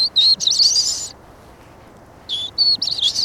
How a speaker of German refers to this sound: Oder sagen jetzt gerade ein Gartenbaumläufer, ein sehr unauffälliger Vogel. Ein bisschen weiter weg, aber so an Eichen mit rissiger Borke. Da singt er wieder. Ein kurzer Gesang.